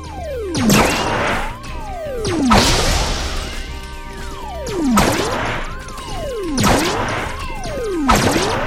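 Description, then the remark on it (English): Loud crashing smashes repeat about five times at uneven intervals, each followed by swooping, sliding tones and debris-like clatter, like something bursting through a wall again and again. “See, I like smashing through the wall, but I hate that all these things are way up there.”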